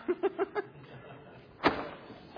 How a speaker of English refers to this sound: If you can reach the door, just work the latch down. We're trying to keep the cool air in.